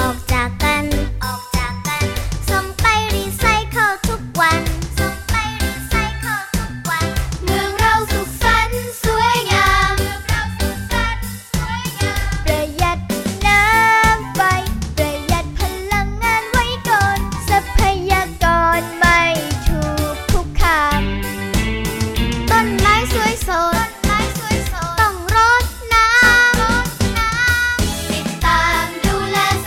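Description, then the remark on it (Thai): A cheerful Thai children's song about caring for nature and the environment and reducing waste plays loudly and continuously for the whole stretch, with bright, tinkling melodic instruments over a steady bouncing rhythm. “หนึ่งเพลงนะครับที่มีความหมายดีมากๆเลยนะก็เลยนำมาฝากน้องๆให้ฟังกันจ้าหวังว่าเด็กๆฟังแล้วก็จะรักป่าของเรารักแม่น้ำของเราเพิ่มมากขึ้นด้วยแล้วก็ช่วยกันดูแลสิ่งแวดล้อมแบบนี้ของเรานะครับ”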